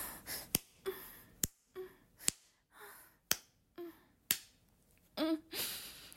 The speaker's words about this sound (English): I have to keep slapping my pussy because I don't trust myself to really edge.